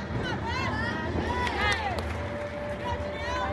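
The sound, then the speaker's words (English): Young women of the University of Maryland competitive cheerleading team run down a long blue tumbling mat and flip hands over feet at the Baltimore Convention Center, their rapid footfalls and landings blending into a loud, echoing space full of shouting voices and crowd chatter. “Young women speed down the mat and flip hands over feet.”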